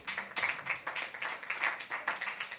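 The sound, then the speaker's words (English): A small group claps steadily for a few seconds, a dense patter of hand claps that stays even throughout, heard at moderate distance with no voices. “We're just applauding watching TV.”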